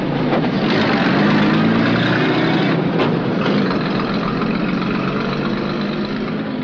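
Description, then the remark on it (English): A truck turns off and drives away down a side road, its engine rumbling loudly and steadily throughout with a broad mechanical roar that eases slightly toward the end. No one speaks. “The truck turns off down a side road and away.”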